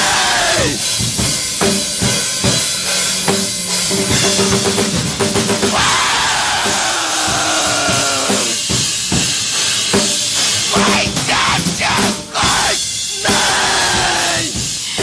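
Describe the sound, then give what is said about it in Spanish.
A loud, chaotic wall of people screaming and yelling, with piercing wails that rise and fall, pressing on without a break for the whole stretch. “Y sí, este podría ser perfectamente el grito del niño loco, el grito de los niños locos que somos todos.”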